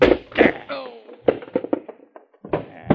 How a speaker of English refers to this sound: Oh, no, you don't. I'll get him with this chair,